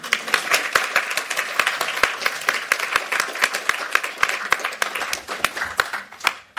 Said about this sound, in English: Great. Thanks. Okay, now we can clap them all.